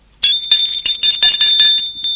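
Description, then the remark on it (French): A doorbell rings for about two seconds as someone rings at a woman's door, one sustained, high metallic ring with a rapid rattling clatter underneath. It starts abruptly and stays loud. No one speaks. “On sonne à sa porte.”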